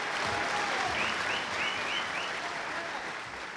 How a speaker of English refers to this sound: The crowd of 700 people responded with warm applause.